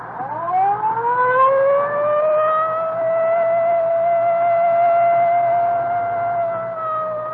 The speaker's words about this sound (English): The rain's going to slow us down. Well, I better use the light and siren, Frank. We may not have much time.